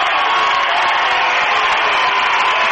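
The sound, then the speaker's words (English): A basketball crowd cheers in a loud, steady roar of many voices during the last two minutes of a close game, sustained for a few seconds without letup, with no clear individual words. “Got the crowd into this one.”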